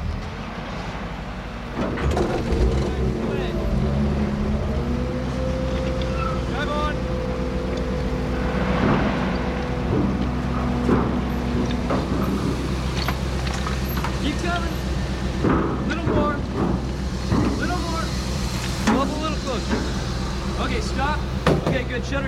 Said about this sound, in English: The ferry has landed. Good drive on. If you don't mind, I think we'll wait for the cars in front of us.